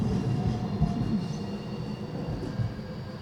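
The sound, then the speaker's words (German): A tram rumbles steadily past on a city street, a continuous low mechanical drone with faint rail hum and occasional clunks, fairly loud, with no voices. “Das war ein Straßenbahnfahrer.”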